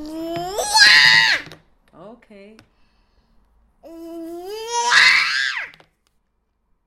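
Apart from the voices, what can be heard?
child screaming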